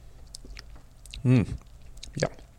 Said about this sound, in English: It's an amber color, 8.2 degrees, and it's a triple, so what could possibly go wrong? Just having a sip.